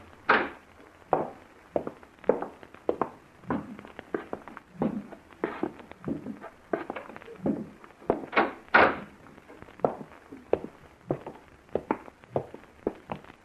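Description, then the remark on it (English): A back door opens and closes as people go out through it, amid a busy run of sharp thumps and bumps, like hurried footsteps and handling. The knocks come irregularly and steadily, with no talking. “We're going out through the back door.”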